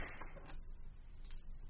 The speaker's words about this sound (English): I shall open the door. No, don't.